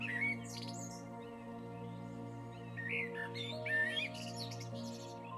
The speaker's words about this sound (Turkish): Çevrede kuşların sesini duyuyorsun.